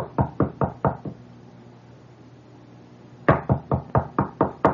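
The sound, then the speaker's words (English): A quiet but insistent knocking on the back door of a house: a quick run of five raps, a pause of about two seconds, then a second, slightly longer run of steady knocks. No voices. “And there is this kind of knock. You know this kind that... This kind that is quiet yet insistent.”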